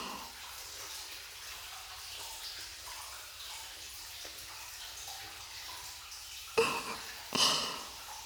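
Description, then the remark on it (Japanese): Soft lather of a gentle, low-irritation, moisturizing body soap being worked over skin to wash it: a steady, soft wet rubbing hiss with faint squishes, then two louder, sharper wet squelches near the end. No one speaks. “この泡は柔らかくて気持ちいいでしょ。肌に刺激を与えない低刺激のボディーソープですのよ。”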